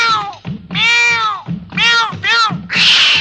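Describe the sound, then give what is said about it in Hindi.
A cat meows loudly, four or five drawn-out, wavering calls in quick succession, the last one harsher and more strained. “Master जी की आ गई चिट्ठी, चिट्ठी में से निकली बिल्ली, चिट्ठी में से निकली बिल्ली।”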